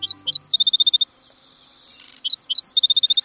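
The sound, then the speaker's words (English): A black-throated sparrow sings from atop a cactus in the desert southwest at the start of the day: bright introductory chirps followed by a rapid, tinkling trill, a brief pause, then the same crisp phrase repeated. No voices. “Singing from atop a cactus, a handsome bird greets the new day. It's a black-throated sparrow, a bird epitomizing avian life in the desert southwest.”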